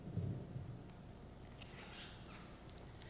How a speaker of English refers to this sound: Dark clouds piled up on the mountains, and early rain came crashing down over the dusty mountaintop.